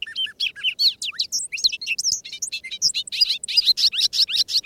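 A bobolink's bubbly, jangling song pours out in rapid, tumbling notes, bright metallic chirps and warbles tumbling over one another continuously, loud with no talking.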